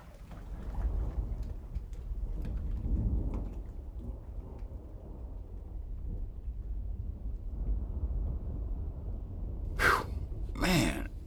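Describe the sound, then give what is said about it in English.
Low thunder of an approaching storm in hot, humid weather rumbles steadily through the whole stretch, a deep murmuring roll. Near the end, two brief, sharper bursts rise briefly above it. “Hot. And humid. Oh, there's a storm coming.”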